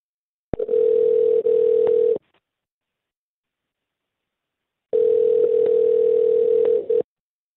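An outgoing phone call ringing: two long, steady electronic ringback tones separated by a few seconds of silence, heard clearly and alone with no voices.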